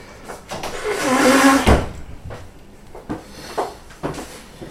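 A chair scrapes and drags across the floor for a second or two, ending in a solid thump, followed by a few lighter knocks and bumps nearby.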